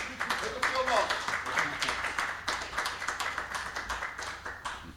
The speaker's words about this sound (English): Round of applause, folks.